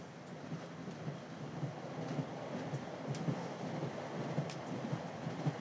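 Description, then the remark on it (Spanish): A train rumbles steadily with a continuous roar, low rhythmic puff-like chuffing pulses repeating underneath as it starts off and gathers speed. The sound is moderately loud, with no voices. “Respirando al mismo tiempo que el tren.”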